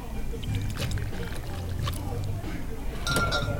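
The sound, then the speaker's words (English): Triple sec pours steadily into a glass with a few light clinks along the way, as a bartender makes an original margarita at a bar, over a low background murmur of voices. “triple sec.”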